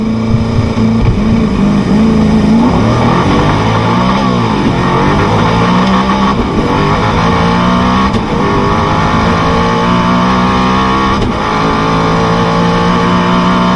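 A Tuatara hypercar, the current speed record holder, accelerates at full throttle in 15-degree air, reaching 400 km/h before braking; its engine roars, pitch climbing in long sweeps broken by brief dips as it shifts gears, loud and continuous throughout with no voices.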